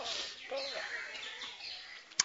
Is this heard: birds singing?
yes